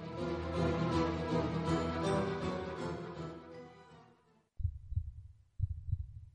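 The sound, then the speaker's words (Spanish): Dense, busy music fades out, then a heartbeat takes over: low, muffled thuds in paired beats, fairly loud, repeating about once a second with nothing else around them. “Escucha el latido de los mercados en Capital Radio.”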